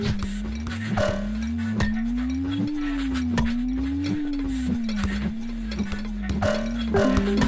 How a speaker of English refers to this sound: Oh, that ding dong sound. It will haunt me in my dreams. It's so weak.